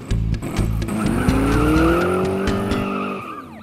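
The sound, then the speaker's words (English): A fast red car roars loudly, its engine whining upward in pitch with a squeal of tires, then easing off, all within a few seconds and with no voices. “We looked at a red car. Too fast, said Mum.”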